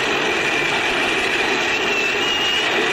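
A dense, unbroken roar from a large baseball stadium crowd at a Red Sox playoff game, rising to its feet around the third and first base sides and shouting "Louis" for pitcher Luis Tiant, holding at a steady loud level for the whole stretch with no single voice standing out.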